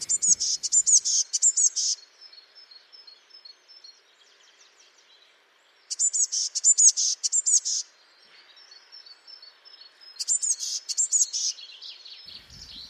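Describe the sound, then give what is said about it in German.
A small tit-like songbird sings high, thin repeated phrases in three bursts, each a quick series of bright notes, with softer faint twittering between them, clear. “und bei diesen Repetierstrophen auch rascher, leiser und nicht so kräftig wie die größere Verwandte. Wir haben dafür auch ein Beispiel mitgebracht.”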